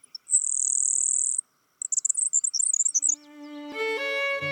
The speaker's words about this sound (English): Today, rather than the roar of cannons, fields like Antietam are filled with the songs of blue grosbeaks. Eastern meadowlarks, field sparrows, indigo buntings, and of course, grasshopper sparrows.